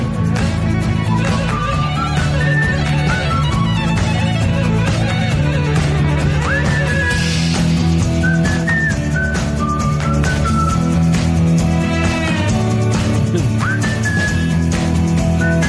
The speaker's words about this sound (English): That is nice. It's a lot of whistling. A lot of whistling. Oh, yeah. Guy must have, he keeps hydrated, I guess. Yeah, very hydrated. A lot of lip balm